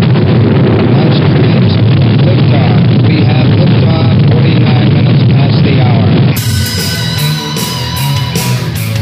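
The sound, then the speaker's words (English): Rocket engines roar at launch, a loud, continuous, deep rumbling blast that fills the first six seconds before cutting abruptly to a brighter, unrelated sound. “We have ignition sequence start. Engines on. 5, 4, 3, 2. All engines running.”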